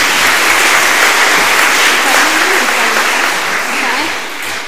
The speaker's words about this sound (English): I'll let you give them a wee clap.